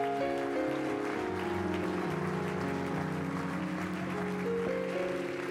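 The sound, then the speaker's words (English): An audience claps hands unto the Lord in a dense, steady wash of applause lasting several seconds, with sustained keyboard chords shifting underneath; no one speaks. “In the name of Jesus Christ, clap your hands unto the Lord.”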